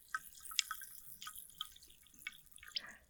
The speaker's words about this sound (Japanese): あれ、音入ってるかな。炭酸水の音が入る。